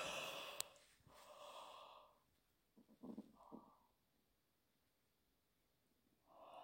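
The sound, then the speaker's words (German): A person yawns loudly with an open mouth: a long, breathy yawn, followed by a few short sniffs and breaths, a quiet pause, then the start of another drawn-out exhale at the end. “Jetzt gähne ich mal für dich mit.”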